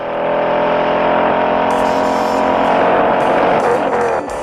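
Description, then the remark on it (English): The engine of a 2008 Mustang Bullet, a remake of the Mustang from the 1968 film Bullet, roars loudly and steadily for several seconds, a deep rumbling growl with rich harmonics and a few sharp bursts of higher rasp near the end. “Sean and his team wanted to make the 2008 Bullet sound similar to the 1968 Bullet.”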